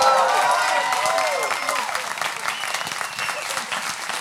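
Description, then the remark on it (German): A live audience in Osnabrück claps loudly and continuously, with scattered whoops and cheers rising above the dense applause, which stays strong throughout and fades slightly toward the end. “wir müssen mit Gut Abgehangen nach Osnabrück, weil hier haut das Publikum einfach von sich eine Riesenstimmung raus, weißt du?”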